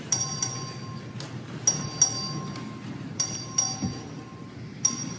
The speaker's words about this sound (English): Members, you heard the motion, so turn it to ballots. The question of record vote, clerk ring the bell.